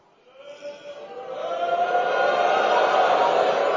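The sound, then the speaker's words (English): Applause from an audience at a TPUSA event, clapping when Laura Ingraham asks who is satisfied with the results of the Epstein investigation, rises over the first couple of seconds into a steady, dense wash of many hands clapping, holding at a moderate level to the end. “How many of you are satisfied? You can clap.”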